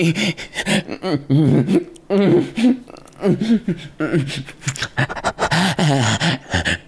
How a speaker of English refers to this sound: Panting like a dog.